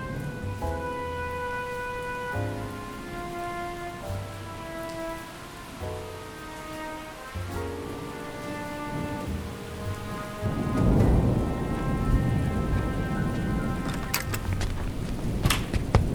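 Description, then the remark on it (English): Steady rain falls under sustained musical tones, then a deep roll of thunder swells in partway through and rumbles loudly alongside the downpour until the end. “Morning has arrived, with rain and thunder”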